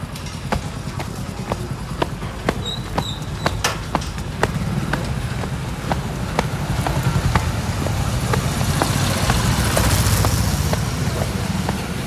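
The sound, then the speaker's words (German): A busy street in India: traffic rumbles steadily with no honking, while a regular clip-clop of hooves ticks through it. The din swells somewhat louder toward the end. “innerhalb dieser 2 Stunden einen 10-Sekunden-Spot zu finden, wo nicht gehupt wird”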